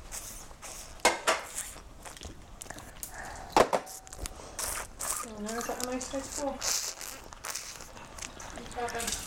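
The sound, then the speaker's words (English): Dishes and cutlery being washed clink and clatter in sharp, irregular knocks amid splashing water, with a louder clank near the middle; a voice talks or babbles over the later washing sounds. “Now, wash the dishes.”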